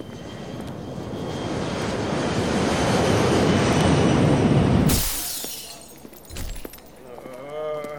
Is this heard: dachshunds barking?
no